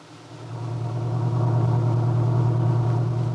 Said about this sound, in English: Aunt Mary Lane and her old friend and helper, Lefty Larkin, were driving into Wakefield in the little pickup truck.